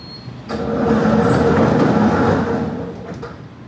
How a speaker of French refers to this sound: La porte s'ouvre, laisse passer la voiture du ministre. Et la porte se referme.